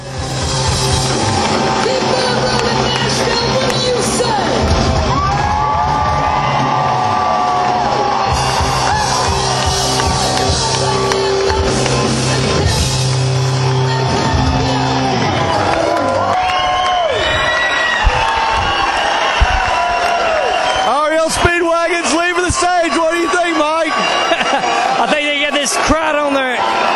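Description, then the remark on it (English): A large concert crowd, everyone on their feet, screams and cheers continuously and loudly as the performers leave the stage after the show, with shrill whoops and yells rising out of a dense wall of voices that never lets up. “I tell you what, man, everybody's screaming, everybody's on their feet.”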